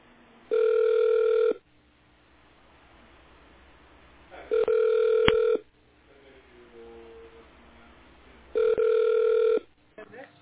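Three long, steady ringback tones over a telephone line while waiting for an operator to answer on the Dom.ru Business company line, each about a second long and spaced about four seconds apart, with a low, faint hiss between the rings.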